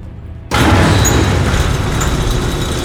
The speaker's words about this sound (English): that cargo bay door is opening. Something is stepping out.